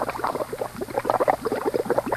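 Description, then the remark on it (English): A sound effect of clam chowder bubbling: a thick liquid bubbles and blurps steadily, a busy stream of soft gloppy pops at moderate loudness, like a pot of chowder simmering, with no voices over it. “And please tell Infallible Charlie that I love to hear once again the sound of the bubble in the clam chowder we used to eat for supper.”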